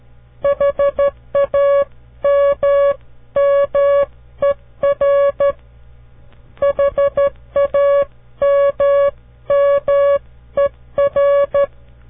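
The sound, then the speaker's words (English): Morse code spelling out the word 'hammer': a steady, fairly loud mid-pitched beep keyed in quick dots and longer dashes, with a short pause midway and a faint low hum underneath. “And here is our last word illustrating the use of the letter M. Try this one.”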